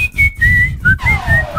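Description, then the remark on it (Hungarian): A person whistles a short song melody, several clear sustained tones stepping between pitches with a brief gliding note, over a low rumbling background. “Az eredet is, de ez még fütyülve is irritáló.”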